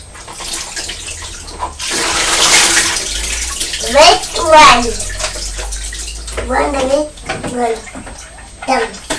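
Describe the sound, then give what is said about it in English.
Water pours out of a white box bath toy in a steady, splashy gush for a couple of seconds, then trickles off as a child's voice and an adult's voice chatter in a bathtub. “And then you get the water back out of the white box.”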